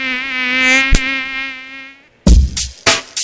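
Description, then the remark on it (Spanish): A steady high-pitched mosquito whine drones for about two seconds, then stops; a few sharp slapping or clapping hits follow, as if swatting at it. “La transmisión es de una persona infectada al mosquito que la pica y del mosquito que pica a una persona sana.”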